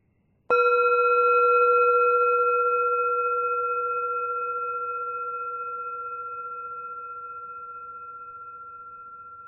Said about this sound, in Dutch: Als je de bel hoort, begint de meditatie.